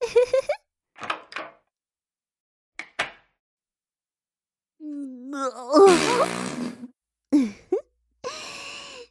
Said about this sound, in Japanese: 我慢できずに大きなおならが出てしまいましたわ。ああ、臭い。外にいるあの子に聞かれていませんよね。あまりに大きな音でしたから、聞こえていたかもしれませんね。